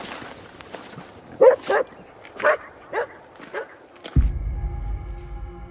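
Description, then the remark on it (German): A shaggy dog following a night watchman through cold, snowy, empty streets at night barks several times in short, uneven bursts, loud, followed by a low, steady hum or droning tone that takes over near the end. “Hinter ihm ein zottliger Hund.”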